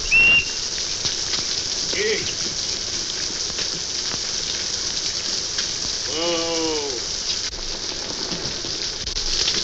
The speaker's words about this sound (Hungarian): Mi az, esik? Csak úgy zuhog, nagyságos uram.